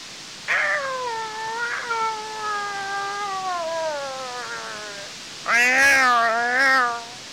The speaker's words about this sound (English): Come back, little cat.